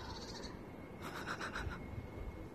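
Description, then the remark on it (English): A bird calls outdoors in a quick run of four or five harsh, caw-like notes over a steady low rumble of background noise with no talking. “The birds.”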